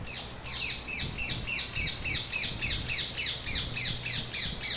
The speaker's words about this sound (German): Wir werden uns wohl daran gewöhnen müssen, dass der Halsbandsittich mehr und mehr auch bei uns heimisch wird und dass sein Gekreische schon bald in recht vielen Regionen Hessens zu hören sein wird.